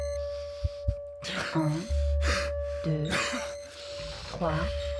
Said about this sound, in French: Prends une grande respiration par le nez. Maintiens. Souffle sur quatre tons.